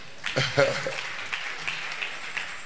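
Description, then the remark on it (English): An audience at a worship gathering claps steadily for a man, a dense crackling patter of many hands lasting the whole moment, with voices calling out over it near the start. “Clap for him.”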